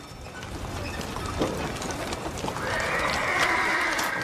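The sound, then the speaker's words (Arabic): A horse whinnies loudly with a rising, drawn-out neigh while hooves clip-clop steadily, set against a soft, continuous background hiss. “لقد كان طريقنا طويل. هيا هيا أيها الحصان، هيا.”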